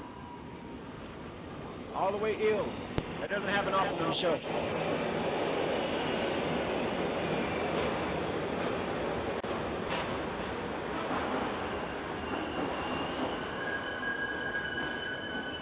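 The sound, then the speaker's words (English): Steady rumble of a subway train running throughout, with clattering rail noise and faint squeals of wheels, while a person talks over it. “He's on the subway.”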